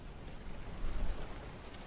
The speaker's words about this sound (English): A wind blows through the dune palm fronds. If you listen hard enough, it sounds almost like rain. It hasn't rained here, though, for a year.